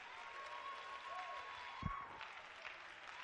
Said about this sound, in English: My Lord, clap your hands to the Lord. Before we're seated, let's give God some hand praise.